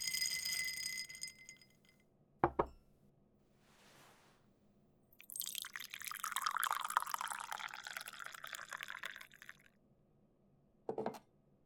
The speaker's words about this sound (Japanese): 作業のお供に紅茶を入れに来たぞ。頭すっきりアイスティー。